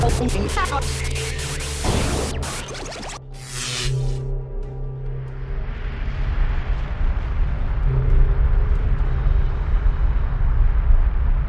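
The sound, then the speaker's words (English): A spaceship explosion rings out: sharp crackling blasts in quick succession, then a long, loud, rumbling roar of debris and noise that swells and lingers. No one speaks. “Oh my god, they exploded.”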